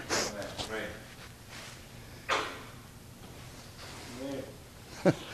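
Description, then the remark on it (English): Someone with the flu blows their nose in a couple of short, breathy bursts, with bits of voiced vocal sound in between. “Well, don't just sit there and look at me, holler amen while I'm trying to blow my nose once in a while.”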